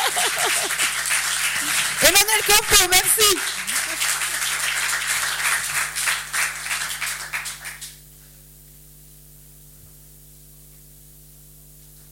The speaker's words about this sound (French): Merci de l'applaudir.